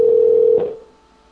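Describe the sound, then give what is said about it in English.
A steady, loud telephone dial tone, heard while callers are being conferenced into a call, holds for about half a second, then a brief click-like disturbance cuts it off and it fades into quiet. Nobody speaks. “going to bring them in one by one. We're going to conference them in, and that's the plan.”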